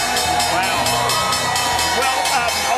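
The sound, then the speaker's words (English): A crowd at the NASDAQ stock exchange opening bell, celebrating an IPO, cheers and shouts in a loud, continuous din, with a steady rhythm of clapping or chanting pulses running through it and voices whooping over the top. “Say is that the Richmond Greyhounds, the people who watched them did not cheer as much as these guys.”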